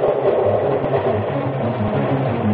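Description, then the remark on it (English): A steady, continuous low rumble with a faint rhythmic clatter of train wheels rolling over track, droning evenly throughout with no voices. “Listen to those train wheels.”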